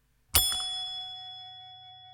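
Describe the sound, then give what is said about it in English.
A single bright ding from a reception desk bell, slapped on top once and left to ring out, its clear metallic tone fading slowly over about two seconds. “Also, you know those kinds of bells like you find at some reception desks? The kind you slap on top and they go ding!”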